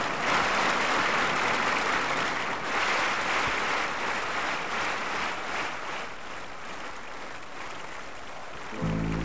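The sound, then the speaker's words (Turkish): A crowd claps steadily and densely for several seconds as a singer is invited onto the stage, a continuous wash of hand claps with no voices, ending in a brief low thump. “Evet, sizler alkışlıyorsunuz ve ben şöyle sesleniyorum.”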